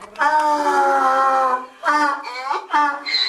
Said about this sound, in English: The Egyptian revolution started on the 25th of January, but in Luxor, every day sounds like an attempted donkey revolution.